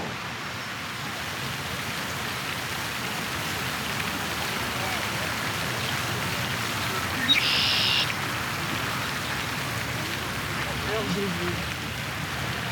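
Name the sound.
distant waterfall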